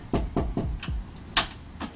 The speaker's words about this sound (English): A knock on the door.